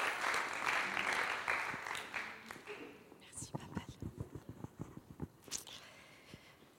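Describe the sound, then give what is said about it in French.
Audience applause for a woman about to share her testimony: a dense, steady wash of many clapping hands that thins after a few seconds into scattered individual claps before dying away, with faint murmuring underneath. “On peut l'applaudir.”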